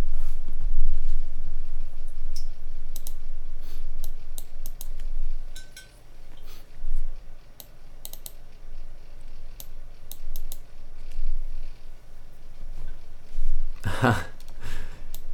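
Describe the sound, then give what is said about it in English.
Irregular clicking of keys on a mechanical keyboard, coming in scattered bursts and pauses over a low background hum, with one louder clattering burst near the end. “What kind of switch do you prefer, Mika, in your mechanical keyboards?”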